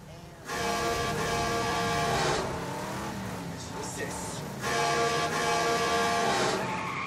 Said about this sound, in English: it starts to tailgate them, honking the horn until Derry moves over into the oncoming traffic lane and lets the van pass